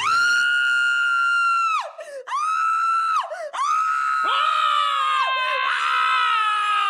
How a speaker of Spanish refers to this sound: Al entrar, unos alaridos la asustaron.